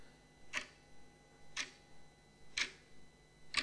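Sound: clock ticking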